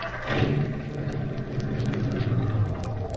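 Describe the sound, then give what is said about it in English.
A car starter cranks steadily in a low, rumbling churn with faint rhythmic ticks, the engine never catching. It is fairly loud and continuous, with no voices. “What's the matter with this car? Sounds a little like asthma.”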